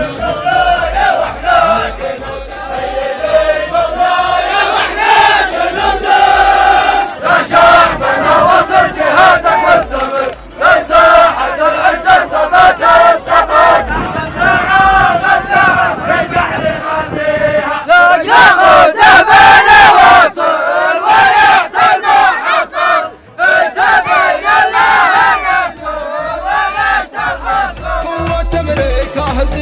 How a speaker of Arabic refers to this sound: ها أنت يا شعب اليمن بهذه الحشود الجماهيرية الضخمة، من يصنع المصير ومن يمتلك روح المبادرة وأسباب النصر.